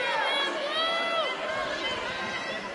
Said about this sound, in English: You got a hero reception, though, from the crowd. Yeah, the Xavier student section like that.